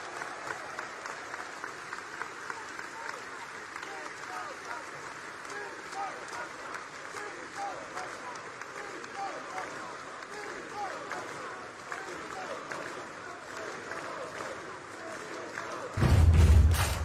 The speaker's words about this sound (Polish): Dziękuję wam bardzo. Jeszcze raz wielkie brawa, Krzysztof Bosak!